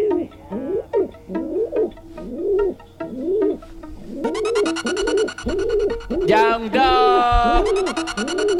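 A dove coos in a steady, repeating rhythm of soft, rounded low calls, fairly loud, with a brighter, buzzier call joining partway through and rising briefly near the end.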